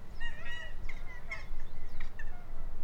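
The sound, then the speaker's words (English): A pair of geese honking in a loose series of harsh, nasal calls, out in dry grass, over a steady low outdoor rumble with no one speaking. “crouches in the dry grass, eagerly watching a pair of geese.”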